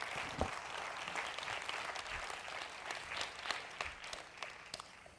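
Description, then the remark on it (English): Steady applause from a crowd for the nominees, many overlapping claps forming a dense, even wash of sound that holds at a moderate level for several seconds without voices. “So let's give them a round of applause again.”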